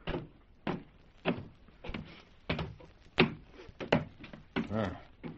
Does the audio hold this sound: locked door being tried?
yes